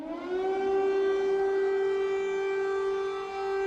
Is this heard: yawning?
no